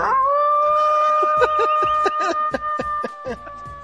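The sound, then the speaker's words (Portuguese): A person imitates a wolf, letting out one long howl that swoops up and holds a steady pitch throughout, while other voices chatter and laugh in short bursts over it. “Então uiva aí pra terminar.”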